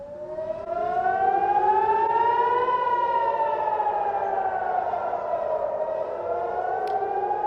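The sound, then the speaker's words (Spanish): A civil defense air raid siren in Jerusalem, Israel, warning the population of an imminent attack from Iran, wails steadily, its pitch slowly rising and then falling in a long sweeping tone, loud and sustained with an echoing quality and no voices. “Las sirenas han vuelto a sonar hoy en la ciudad de Jerusalén.”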